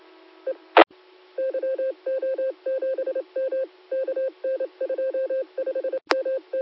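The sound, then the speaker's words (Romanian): A rapid series of short electronic touch-tone beeps as a telephone number is dialed, in quick rhythmic bursts with brief pauses, clear, with a couple of sharp clicks near the start and end. “Da, stai un pic, că să-l telefon.”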